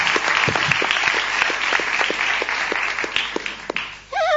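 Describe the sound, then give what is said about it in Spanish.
A crowd at a carnival parade applauds steadily after a medal is awarded for best mask and costume, dense overlapping claps with a few sharper hand claps, filling the space for several seconds before a voice starts up at the very end. “Un aplauso para todos ustedes.”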